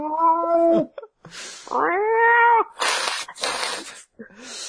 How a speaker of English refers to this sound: Is there a cat on this podcast, Nick?